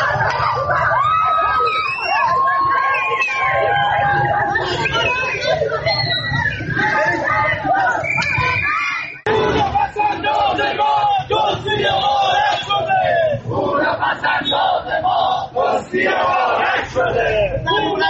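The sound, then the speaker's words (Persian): A dense crowd of protesting depositors of the Caspian financial institution shouts and yells continuously in front of the Central Bank building on Mirdamad Street, Tehran, as police intervention turns violent; many overlapping raised voices at steady high loudness, with a brief dip midway before the clamor surges back. “ابتدا ویدیویی ببینید از مالباختگان مؤسسه مالی کاسپیان که این هفته هم روبروی ساختمان بانک مرکزی در خیابان میرداماد تهران تجمع اعتراضی کردند که با دخالت پلیس به خشونت کشیده شد.”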